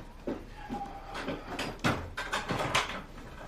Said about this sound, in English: Sarah enters and closes the door.